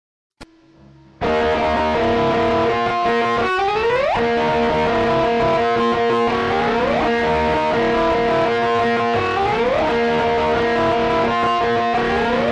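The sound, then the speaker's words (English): A loud, distorted electric guitar, played through an echo flanger in its slapback mode combined with a SansAmp, holds a sustained tone drenched in a short slapback echo and flanger, with repeated swooping pitch bends throughout, played alone with no voices. “But he uses the so-called slapback mode of the echo flanger, which provides sort of a echo sound, and it sounds like this.”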